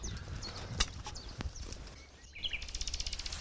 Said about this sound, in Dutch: Ja, dat was hem. Dat was de nachtegaal.